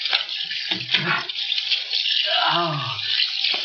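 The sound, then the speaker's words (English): A tap runs steadily throughout, a continuous splashing hiss of water onto someone's face, with a brief low vocal murmur rising partway through. “Water. On my face.”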